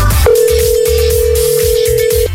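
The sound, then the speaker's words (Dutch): A single long, steady ringback tone of an outgoing phone call to a quiz contestant sounds for about two seconds, clear and prominent over a low, rhythmic music bed. “En dan moet je wel opnemen natuurlijk als je een appje hebt gestuurd.”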